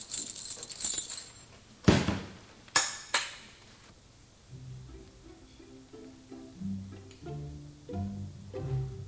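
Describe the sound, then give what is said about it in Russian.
A bunch of library keys jangles as they are handed over for a few seconds, with several sharper metallic clinks, before the jingling fades and soft, plucked-sounding music notes take over. “Вот ключи.”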